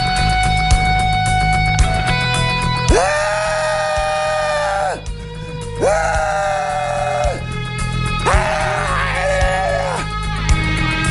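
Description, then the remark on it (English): A person screams helplessly at the sky three times, practicing for an anti-Trump rally over Hillary Clinton losing the election, each a long, loud, wavering wail separated by brief pauses, with a steady musical bed playing underneath. “I was just practicing for our rally later today. Scream helplessly at the sky rally over Hillary Clinton losing the election.”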